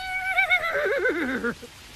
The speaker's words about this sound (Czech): No jo, to pro vás koně není. Ty bys tak nepohrdl trochou ovsa, viď?